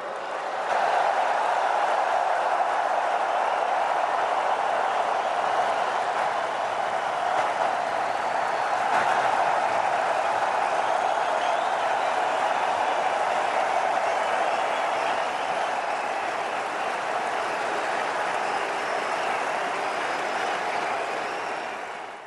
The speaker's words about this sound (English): Lengthy applause there coming from this packed arena, including the Prime Minister from India as well.